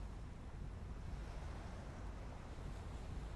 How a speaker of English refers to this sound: The only sounds are the burbling stream and the gentle lapping waves.